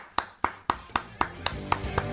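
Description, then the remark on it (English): A short burst of clapping: about eight crisp, evenly spaced claps in a steady rhythm, clear, with a faint tonal hum creeping in beneath the last few. “Let's have a round of applause for Dave from Connecticut.”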